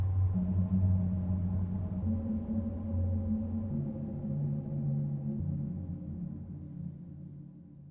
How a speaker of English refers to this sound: There's a really low and subtle wind sound throughout the piece. Take a listen. You only really notice it at the end when everything else has died down. It changes pitch intermittently and pans back and forth between the ears. So subtle.